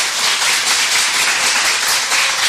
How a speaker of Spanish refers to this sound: Nos acompañan alumnos ahora mismo de quinto de primaria y de primero de la ESO. Quiero que os escuche toda Cantabria. ¡Ese aplauso!